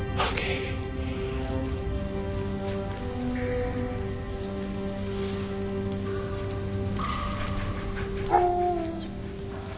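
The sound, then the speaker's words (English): A dog whines and whimpers almost continuously, high nasal tones rising and falling, with a slightly louder yelp near the end and no one speaking. “Okay, good boy, good dog.”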